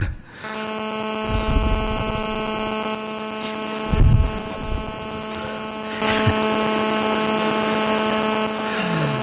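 A drone flies overhead with a steady, droning electric whine rich in buzzy overtones. It holds an even pitch for about nine seconds, with a few brief rumbling bumps and rustles underneath.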